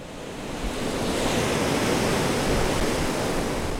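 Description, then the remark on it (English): Tall waves crash steadily against a Great Lakes shoreline during a November storm with gale-force winds, a loud, continuous roar of surf that swells in over the first second and stays full, with wind mixed in and no voices. “In the Great Lakes, this is the season of frequent storms and tall waves crashing against the shoreline.”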